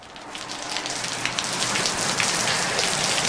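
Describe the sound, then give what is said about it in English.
A rain sound effect for a rainy street scene: steady rain patters onto a hard surface, a dense, continuous hiss of droplets with small scattered splashes standing out, fairly loud with no voices. “Just a little rain. Nice rain there.”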